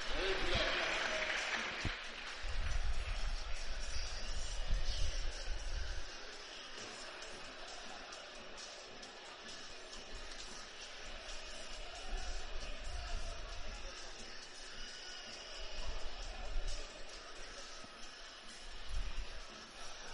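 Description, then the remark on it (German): A football stadium crowd at a WSV home match against Herkenrath cheers and applauds in a steady roar for about twenty seconds before kick-off, with clapping and voices blending together and swelling at moments. “eben schon erwähnt, es ist eine ordentliche Kulisse.”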